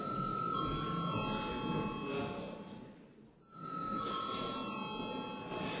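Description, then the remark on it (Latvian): A loud electric bell rings in the Latvian parliament, the Saeima, calling members to a vote, with a steady metallic buzz, briefly dropping off around the middle before ringing again at full strength until the end. “Lūdzu zvanu.”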